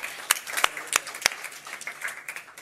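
Scattered applause from a small audience, with a few sharp, loud claps standing out at the start before settling into a steady patter of many hands clapping nearby.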